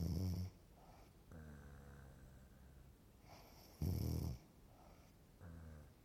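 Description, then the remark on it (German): Loud, exaggerated snoring of a wolf asleep in bed after eating its fill repeats in slow cycles: rough, rasping inhales alternate with droning, whistling exhales, with no talking. “So satt wie er war, legte er sich wieder ins Bett, schlief ein und schnarcht.”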